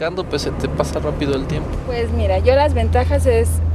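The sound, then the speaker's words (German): People talk inside a moving car while a steady low engine drone hums beneath them, growing more noticeable partway through as the car idles or crawls along in a city traffic jam. “Jetzt fahren wir wenigstens gemeinsam und gemütlich, freuen sich … und …, obwohl sie immer noch häufig im Stau stehen.”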